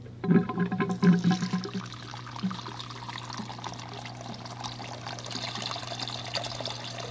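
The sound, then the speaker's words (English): Water pours with a gurgling, bubbly rush for the first couple of seconds, then settles into a steady trickling drain as water and soap bubbles go down a tiny drain, continuing quietly to the end, with no talking. “Do you ever watch the water go out of the drain?”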